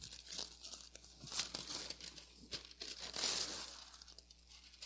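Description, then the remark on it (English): Badly ripped gift wrapping paper being unfolded again, a steady run of rustling and crackling with sharper crisp bursts, fairly quiet overall and with no one speaking. “my paper, I had trouble wrapping it this week. I ripped it up so badly. But now I'm going to open it up again, and I have one more use of this paper next week.”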